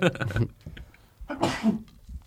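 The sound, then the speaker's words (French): A single sharp, loud sneeze bursts out after a moment of voice, its breathy hiss trailing off quickly into quiet. “On l'entend pas parler, mais on l'entend éternuer quand même.”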